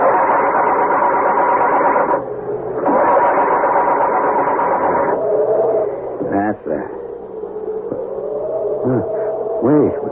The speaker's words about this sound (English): The car has crashed into a tree. Muttering a silent, heartfelt prayer, he tries to start it.